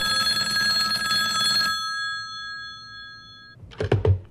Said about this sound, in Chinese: 接到了一通紧急电话。